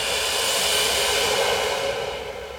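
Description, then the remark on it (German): A long, deep exhalation during a guided breathing exercise, a steady breathy rush of air that holds for a couple of seconds and then slowly tapers off, with no talking. “Und wieder aus.”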